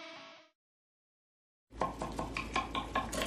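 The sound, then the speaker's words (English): Dishes and cutlery clink and clatter at a dinner in quick, irregular bursts over a low steady background hum, starting after a brief tonal tail and a second of silence. “These are the sounds of a dinner.”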